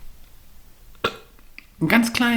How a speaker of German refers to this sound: Ich muss, glaube ich, rülpsen.